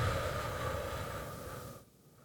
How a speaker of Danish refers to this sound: Og pust så langsomt ud gennem munden.